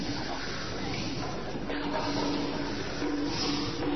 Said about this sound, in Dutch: De wind giert om de oren van de discipelen. De wind fluit in hun oren.